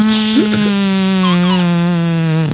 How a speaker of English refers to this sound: There you go. Yeah, it was only the burp part at the end.